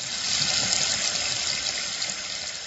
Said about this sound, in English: Most of us expect water to run freely from our faucets without disruption. Pay your bill, and the water flows.